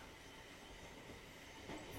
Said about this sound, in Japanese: この電車は最終電車だよな。